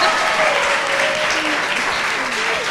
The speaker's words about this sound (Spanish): ¡Mira cómo aplauden! ¡Qué monas! ¡Venga, un aplauso!